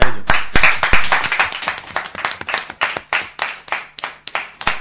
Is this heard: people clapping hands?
yes